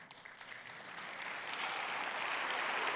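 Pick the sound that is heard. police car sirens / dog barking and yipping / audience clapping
audience clapping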